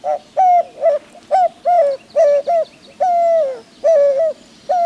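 A white-winged dove coos in a steady, rhythmic series of short hooting notes with a few longer drawn-out ones, fairly loud, with no other sounds.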